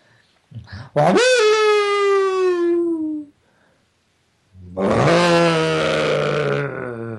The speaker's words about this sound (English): This was a low growl from the woods.